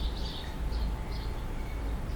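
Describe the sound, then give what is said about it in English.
Faint, high bird chirps come in short bursts a few times against a steady low rumble of background noise. “The birds are not part of the same soundscape.”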